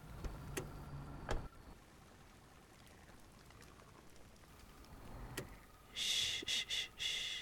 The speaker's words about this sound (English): Here. Let me switch off the car.